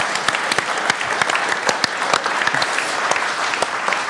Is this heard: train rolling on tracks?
no